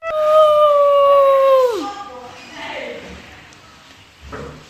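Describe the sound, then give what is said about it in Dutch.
A child's voice mimics a wolf howl, playing a wolf from The Jungle Book, one long, loud, steady note that slides downward and fades, followed by softer vocal sounds. “Ik ben Ratja de Wolf.”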